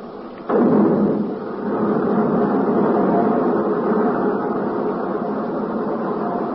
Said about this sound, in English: Okay, all set to fire. Clear? Clear. Starting right jet. Starting left jet.